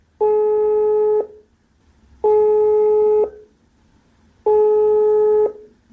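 A telephone ringback tone repeats three times, each steady electronic beep lasting about a second with equal pauses between, clear and close with no voices.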